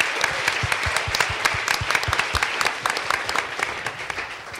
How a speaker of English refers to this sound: So a round of applause for Mr. Stewart and all of our guests here tonight.